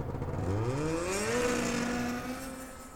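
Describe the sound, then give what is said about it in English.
A snowmobile engine, just remounted by its rider, revs up, its buzzing whine climbing in pitch and then holding a steady, loud drone before easing slightly at the end. No voices. “And with that, Whip Roberts walked away and remounted his snowmobile.”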